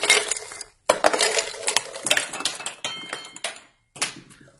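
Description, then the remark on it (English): Small decorative objects are poured into water in several bursts, making bright, rattling clinks and patters with brief silent gaps between pours. No one speaks. “But look what happens when we pour these in.”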